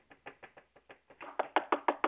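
A rapid series of about a dozen sharp knocks on a hard surface, evenly spaced, starting moderate and growing louder and more forceful toward the end, with no voices.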